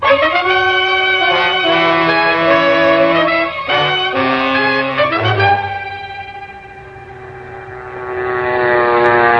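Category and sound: vehicle, airplane engine in flight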